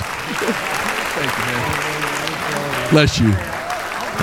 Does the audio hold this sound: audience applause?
yes